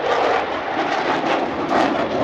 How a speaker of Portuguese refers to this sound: Esse som que parece uma mistura de explosão com o rugido de um leão é o que se ouve quando se está a apenas 200 metros de um caça Rafale.